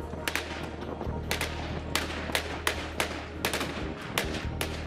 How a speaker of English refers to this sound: Gunfire signals the Iraqi Federal Police push deeper into Mosul's old city Sunday as they try to recapture more positions from the Islamic State group.